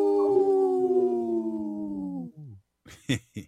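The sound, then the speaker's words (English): On the Native Roots Radio show, a person imitates a wolf howl for Howling for Wolves, which protects wolves. The howl is a long, steady, slowly falling wail held for over two seconds, then trails off into a few short, breathy vocal bursts. “This portion of the show is supported by Howling for Wolves, protecting wolves for future generations. Howl! Howl!”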